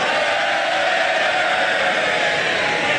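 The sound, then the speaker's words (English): Members of Parliament cheer and shout together after a vote result of 298 ayes to 309 noes on leaving the European Union with no deal, a dense, continuous roar that stays loud and steady throughout, with no single speaker standing out. “You won't be cheering in September.”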